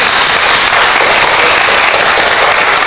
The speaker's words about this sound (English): Stand up, don't be ashamed of being a father. Clap for the fathers right now.